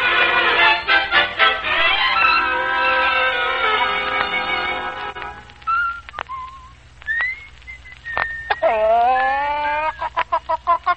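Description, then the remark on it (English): A rooster named Omar crows loudly and at length, its strained call repeated in bursts, with short whistling chirps between and a final rising crow near the end; no one speaks. “Ah, you've woken up at last, Rooster.”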